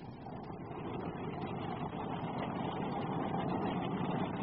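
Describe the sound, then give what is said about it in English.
The engine of an old car from the Prohibition era drones steadily without pause, a low, rumbling, chugging motor with a rough, uneven texture, loud and alone with no voices. “And the cars then? Well, they sounded a little more like this.”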